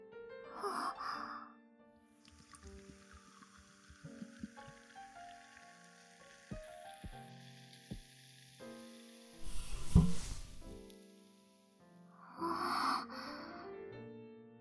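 A steady, soft fizzing hiss of small bubbles in clear, amber-colored beer in a glass runs for several seconds, with a few faint clinks, framed by breathy exhales at the start and end.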